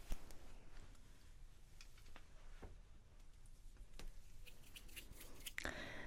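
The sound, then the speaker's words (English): The zipper of a demon skull jacket is worked, giving scattered ticks and scrapes and then a denser rasping pull near the end, with no talking over it. “So we have this Demon Skull jacket for you. Zipper.”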